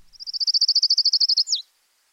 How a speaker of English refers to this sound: Kalima warbler. It's got a trill that kind of slows down toward the end, and then it has a very distinctive abrupt end.